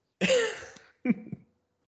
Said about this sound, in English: Needs to cough into his elbow, like they tell you these days. Yes, that's just fucking disgusting. Oh, that guy's coughing. This fucking guy.